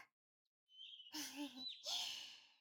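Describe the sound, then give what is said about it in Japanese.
A bird that has just landed calls after a moment of silence: a thin, high whistle followed by two louder, raspy chirping calls in quick succession, with no one speaking. “こちらの鳥は声も姿も愛らしいな。”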